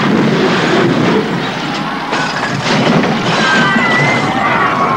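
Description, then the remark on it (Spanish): A large luminous disc falls and crashes onto the metal stage structures, filling the air with a loud, sustained roar of clattering, rumbling debris, with faint high metallic squeals near the end. “Joan acciona la palanca haciendo que el gran disco luminoso golpee las estructuras del escenario. Omar salta del disco a la estructura metálica. El disco cae.”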